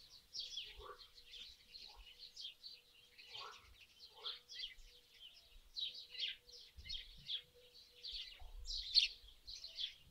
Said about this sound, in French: Faites maintenant passer votre attention de la conscience de votre corps au bruit du dehors, le chant des oiseaux. Toute votre attention sur le chant des oiseaux au dehors.